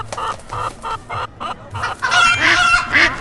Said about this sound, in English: Okay, there's a chicken.